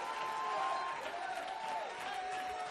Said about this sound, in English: My God, somebody clap your hand and shout a little bit.